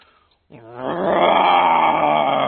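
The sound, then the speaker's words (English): A person gives a single loud, sustained roar in imitation of a lion, starting after a brief quiet moment and swelling into a rough, growling bellow that holds to the end. “Can you imitate a lion?”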